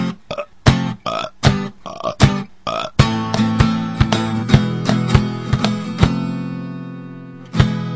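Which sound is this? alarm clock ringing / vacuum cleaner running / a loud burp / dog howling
a loud burp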